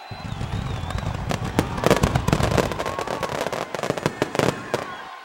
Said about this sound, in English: What's that noise? They're lighting fireworks.